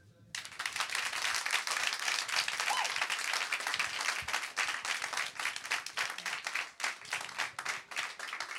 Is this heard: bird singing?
no